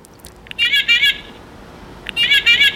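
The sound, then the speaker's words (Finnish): A toy horn toots twice, each a bright, reedy, wavering blast of about a second, separated by a short pause. Each blast starts with a small click, and no one speaks. “Tosiaan on tämä pilli, kilikili ja sitten on vielä tämmöinen töötö. Että kuullaan sekin tähän putkeen, niin te tiedätte.”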